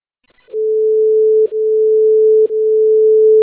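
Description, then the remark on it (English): A loud, steady electronic dispatch alert tone, a test of the Medic 1 station tones from the USDD Automated Dispatch System, holds one mid pitch for about three seconds, with two brief clicks or dips in it, and no voices present. “This is a test alert from the USDD Automated Dispatch System for Medic 1 Station Tones.”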